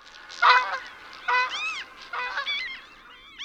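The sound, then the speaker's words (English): Several geese honk at Valmont Reservoir in Boulder County in a loose, overlapping chorus of nasal, rising calls, moderately loud, with bursts at intervals and no talking. “Lots of gulls, lots of ducks, lots of geese.”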